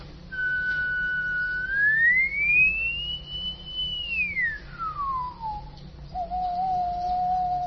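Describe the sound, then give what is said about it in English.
A lone human whistle, its frequency analysed and shown on a slider in PD software, holds a clear pure note, glides smoothly up to a higher pitch, sustains it, then slides down, pauses briefly and settles on a steady low tone. “So if I whistle, and you look at this slider, and you can also see the frequency I'm whistling here.”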